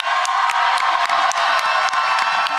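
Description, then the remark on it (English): Loud, dense applause and cheering from a large crowd for the guest Bowen Yang, a steady wash of clapping with whoops rising over it, continuous throughout. “Clap, clap. Get your ears open.”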